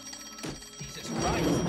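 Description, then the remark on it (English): A telephone rings at the Sweetwater with a bright, trilling bell, steady, joined by a rising background murmur toward the end. “Somebody answer the goddamn phone!”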